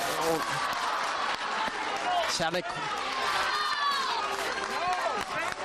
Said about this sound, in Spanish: Se escuchan esos viva a la Virgen de los Dolores. Entre aplausos, muchas emociones ahora.